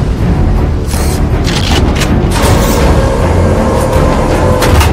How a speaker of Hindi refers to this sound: धमाका खेज गोले लोड हो रहे हैं।